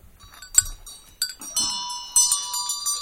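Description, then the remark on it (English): A Tibetan ritual vajra bell rings repeatedly, each sharp metallic strike followed by a sustained shimmering ring that layers and builds, fairly loud, with no voices. “Vajran Bell.”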